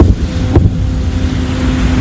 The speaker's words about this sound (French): Ce son est celui de la défense antiaérienne ukrainienne au-dessus de Kiev. Et ce bourdonnement, celui d'un drone kamikaze. Chaque nuit, ils sont lancés par dizaines et parfois par centaines par les Russes au-dessus de l'Ukraine.